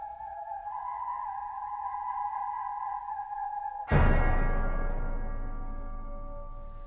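Ominous, cult-toned soundtrack music from the Indiana Jones film Temple of Doom: steady, eerie held tones drone for a few seconds, then a sudden loud crashing hit rings out and slowly decays. No voices.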